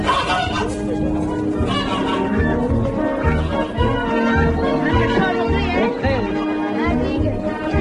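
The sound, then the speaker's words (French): A dense flock of geese being force-fed maize for foie gras, honking and squawking loudly, their overlapping harsh calls forming a continuous, agitated racket for the whole stretch. “on les a entendues, elles n'avaient pas l'air d'accord”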